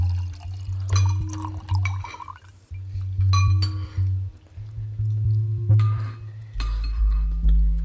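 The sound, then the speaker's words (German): Still water is poured into glasses at a dinner table during a meal, amid repeated bright clinks of glass against glass, with a steady low hum underneath. “Wem darf ich noch Wasser eingießen?”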